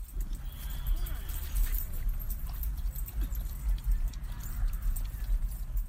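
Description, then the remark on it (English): Outdoor dog park ambience in a park covered in wood chips: a steady low rumble of open air with scattered crunching steps, light metallic jingles like tags, and faint, indistinct voices murmuring. “Here are some wonderful park sounds for you guys while I read an excerpt of my observation notes.”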